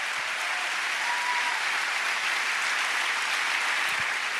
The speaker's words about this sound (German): Das ist schon Applaus wert.